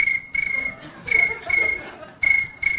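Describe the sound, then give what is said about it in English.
Crickets chirping in a steady, high-pitched trill that swells in repeated bursts roughly every half second, moderately loud, with faint low rumbling underneath. “It's the cricket sound I associate with tripping.”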